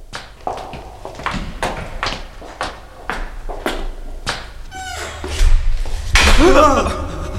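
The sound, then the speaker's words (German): A string of sharp, evenly spaced knocks or footsteps leads to a loud door being slammed shut near the end, followed by a brief ringing, creaky echo. “Die Tür wurde zugeschlagen.”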